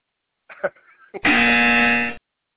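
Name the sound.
game show wrong-answer buzzer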